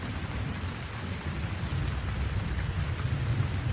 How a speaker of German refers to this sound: Langsam wandert deine Aufmerksamkeit von der Weite der Landschaft, die vor dir liegt, hin zu dem Regen, der dich umgibt. Sieh den Tropfen zu, wie sie auf den Boden fallen. Höre das Grummeln des Gewitters in der Ferne.